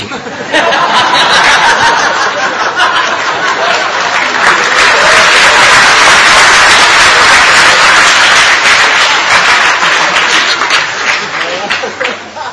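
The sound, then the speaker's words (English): A crowd bursts into sustained applause, dense and loud, steady for about twelve seconds with scattered laughter and chuckles mixed in before it begins to fade. “when my dog-like propensities come out, everybody claps.”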